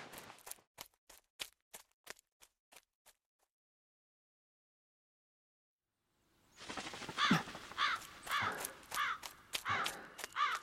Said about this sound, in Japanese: あのカラス、この木に止まったな。巣でもあるんか。